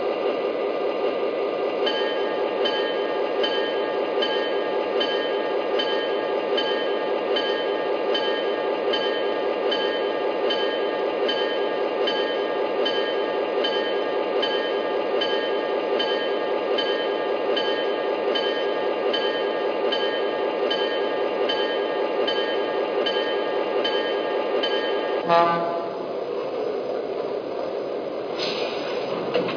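A passenger train, number 105, the City of Mormon, idles at track one of the Boise station platform, a steady mechanical rumble with faint humming tones running continuously, then shifting abruptly near the end with a brief clank.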